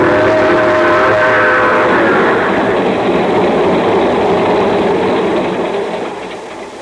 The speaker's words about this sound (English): Well, so I'm here, sitting in the observation car of the train just pulling out for Palo Alto, California.